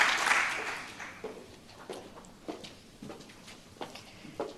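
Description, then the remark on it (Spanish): A burst of audience applause for students with the best academic records receiving their award diplomas from the rector at Universidad Miguel Hernández, quickly thinning out into scattered, fading claps, ending with a few isolated hand claps. No voices are heard. “en la Universidad Miguel Hernández, con los mejores expedientes, y reciben el premio, el certificado, ese diploma de manos, como decimos, pues del rector, del presidente del Consejo Social, también de José Juan López Espín, y el aplauso para ellos.”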